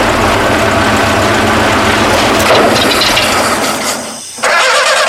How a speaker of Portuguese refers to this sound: O carro não dá partida?